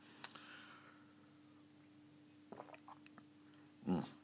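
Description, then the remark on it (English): A quiet sip of tea: a few soft clicks and mouth sounds, then a brief slurp near the end, with no talking. “I shall sit in the hotel and take things easy and perhaps make another pot of tea in a moment, because this one might be going cold. If I shall have a quick sip now.”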